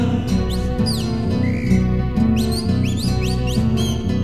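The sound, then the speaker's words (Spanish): Quick, bright rising whistles from a mockingbird come in two bursts of repeated chirps, riding over steady, loud music with a heavy bass line underneath. “Silba la calandria.”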